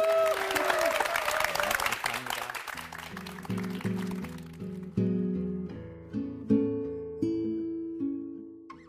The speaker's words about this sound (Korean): 우리 자 김원태 목사님의 강의를 박수로 청해 듣겠습니다.